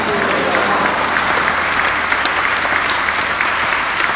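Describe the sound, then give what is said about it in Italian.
Loud, sustained applause for the Lord from a large crowd, a dense continuous patter of many hands clapping at once, filling the whole stretch without pause and with no voices standing out. “Un applauso al Signore.”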